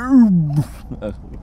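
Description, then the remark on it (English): A person imitates a tiger's call while scanning the shoreline for tigers in the Sundarbans, starting with a loud, drawn-out moaning note that falls in pitch, then a breathy huff and a short, softer voiced sound. “Do I sound at all like a tiger? Tiger cub? Like a cub? I sound like a tiger cub, okay.”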